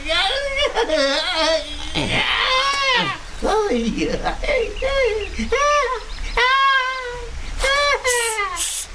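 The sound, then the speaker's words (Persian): A baby monkey inside a stone that has just opened cries in a string of high, wavering wails, each rising and falling in pitch, repeating steadily and loudly over several seconds. “بچه میشنوین؟ انگار تو اون سنگ یه چیزی هست. یه صدای شبیه صدای بچه میمونه.”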